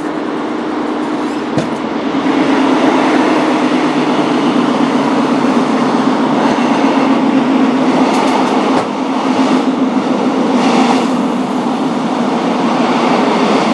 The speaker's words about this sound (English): Anyway, there we are, sound of the Cornish train. It's slowing down now.